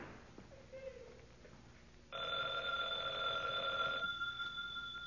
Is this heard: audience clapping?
no